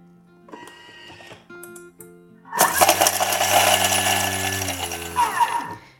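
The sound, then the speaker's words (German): A few light clicks and handling sounds, then an electric food chopper, chopping parsley and garlic, whirs loudly for about three seconds with a steady motor hum and coarse chopping buzz before quickly winding down. “Wir nehmen einmal die Petersilie und den Knoblauch. Den tun wir jetzt in den Mixer hinein. Zerkleinern ihn einmal kurz.”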